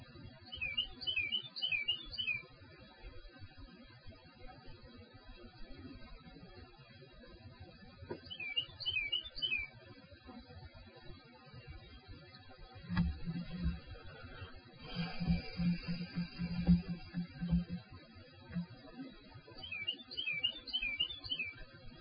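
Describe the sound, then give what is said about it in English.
A bird sings in the morning in short bursts of bright, trilling chirps that come and go with quiet gaps between, fairly soft over a low outdoor rumble. “Can you hear the song of the bird this morning?”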